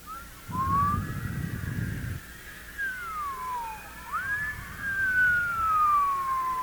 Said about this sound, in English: And while you just close your eyes and do that, and while you're feeling that you're rising, why don't you rise? See? Okay, just kind of rise and whistle while you do it.